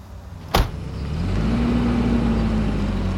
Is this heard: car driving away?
yes